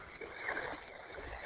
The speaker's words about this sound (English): Yeah, we can hear the waves hitting the shore there. That's pretty cool.